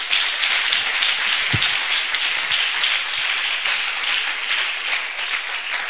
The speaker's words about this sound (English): Can clap your hands for the Lord.